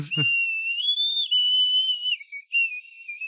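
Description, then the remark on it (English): Someone whistles a theme song as a sustained, wavering tune, holding long pitched notes that glide and dip with a brief break near the end, no talking over it. “I suck at whistling.”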